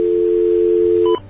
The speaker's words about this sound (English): Now, we're going to take our little pulsating dial tone here. All right, turn it into a regular dial tone.